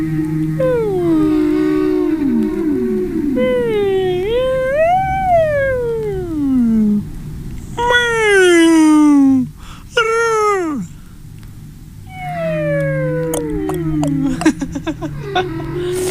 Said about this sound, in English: Anyway, yeah, so this is actually a solo whale. There's absolutely no discourse.